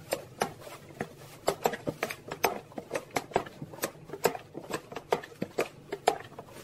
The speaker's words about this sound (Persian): کار که انجام میدیم اینه که لیوانمون رو بر میداریم، این لیوان رو خالی میکنیم تو محتویات ژلمون. اصولا توی ژله هستش که یه لیوان آب سرد بریزیم و یه لیوان آب جوش. اینو هم میزنیم با قاشقمون.